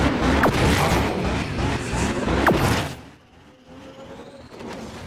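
Loud, dense roaring engines and crashing impacts from the racing video game Asphalt 9 fill the first three seconds, with sharp bangs, then the noise drops to a quieter whooshing rumble with a faint rising whine.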